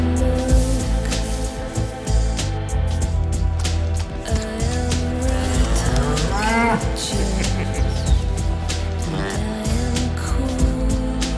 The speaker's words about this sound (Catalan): Bona banda sonora, Sí, però... Bona banda sonora, que és pràcticament... Que, sí. Juntament amb les vaques és poc més el trailer, no?